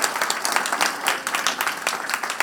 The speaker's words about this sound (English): Thank you so much. Give her a hand clap.